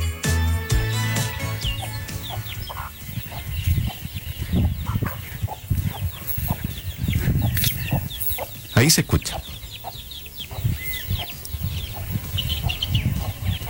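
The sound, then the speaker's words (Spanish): A hen clucks in short, repeated bursts as she walks with her small chicks, their faint high peeps scattered around her, with a few brief spoken words over the scratching, busy farmyard background. “Es una gallina que orgullosa anda con sus críos.”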